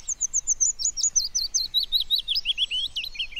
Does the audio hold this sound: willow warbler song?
yes